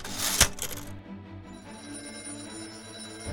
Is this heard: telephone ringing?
yes